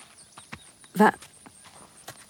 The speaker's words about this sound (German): was ist das? Was? Was meinst du? Da. Schau mal, das Pferd.